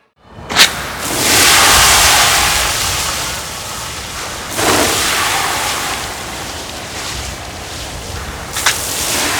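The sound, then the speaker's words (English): A loud, steady rush of water spraying from a fire hose hisses continuously after a sudden start, surging briefly a couple of times, with no voices. “You heard Chesapeake Bay waves, children swimming at a public pool, and water coming out of a fire hose.”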